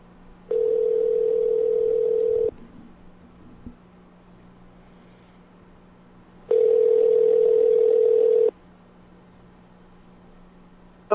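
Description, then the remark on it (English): A telephone ringback tone buzzes twice while calling a house number, each steady ring lasting about two seconds with a long silent gap between, heard clearly over faint line hum and no talking. “That was her house number.”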